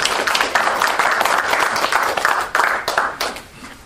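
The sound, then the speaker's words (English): An audience claps together in a steady, dense burst of applause that holds for several seconds, then tapers off toward the end. No one speaks. “And I think everybody here deserves a round of applause and thanks for that.”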